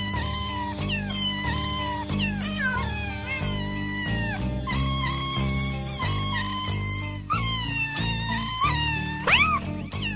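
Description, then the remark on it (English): Several cats yowl and caterwaul almost nonstop, with long wavering, rising and falling cries overlapping loudly, over a steady low pulsing backing sound. “Cat lovers, absolutely going ballistic.”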